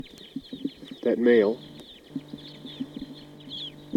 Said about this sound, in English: Both of those birds are here together in a pine tree, pointing at those two birds.